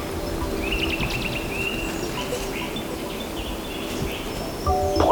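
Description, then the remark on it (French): Wind rustles steadily through chestnut, aspen and beech leaves under an overcast grey sky with no rain, in a continuous soft hiss, while small birds chirp and trill intermittently in the background. “Ici, comme je l'ai dit, du châtaignier, du tremble, du hêtre. Ça bouge de partout ici.”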